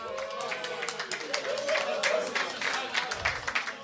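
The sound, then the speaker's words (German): An audience applauds the photographer, many hands clapping in a dense, crackling patter that holds for a few seconds, with voices murmuring and calling out underneath. “Einmal Applaus für den Fotografen!”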